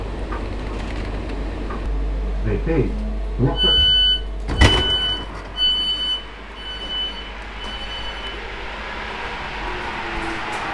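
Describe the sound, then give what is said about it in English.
A train station ambience at Glossop train station as someone gets off the train, with a low rumble of an idling train, repeated electronic door beeps, a sharp clunk of doors, and voices of passengers mingling. “I started enjoying the everyday transitional moments, like getting off the train at Glossop train station.”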